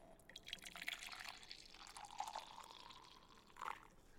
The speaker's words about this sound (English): Oui, let me pour the milk.